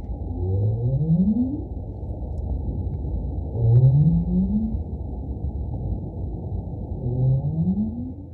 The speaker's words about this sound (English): That is a North Atlantic right whale. Okay. And that's a really iconic sound for Cape Cod Bay and for Massachusetts Bay because that's the sound that both males and females use as a contact call